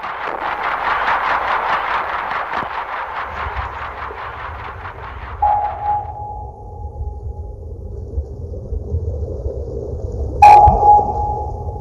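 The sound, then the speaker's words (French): Two sharp active sonar pings, each a pure high tone that starts abruptly and rings out in a long fading tail, heard over a steady low rumble after a pulsing mechanical churn fades out. “Le fameux ping qu'on entend dans tous les films de sous-marins, c'est le sonar actif.”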